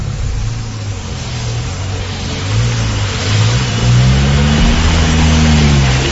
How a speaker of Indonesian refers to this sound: Begitu kata supir angkot itu, sambil ketus dan langsung menggas mobilnya.